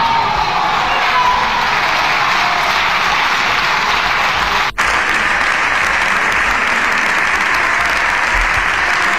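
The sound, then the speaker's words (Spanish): Loud, sustained applause from a large audience after a speech fills the whole clip, a dense wash of clapping with a few faint shouts in the crowd and a brief dropout near the middle. “Qué aplausos, ¿eh?”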